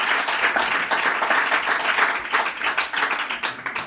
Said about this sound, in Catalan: Un aplaudiment.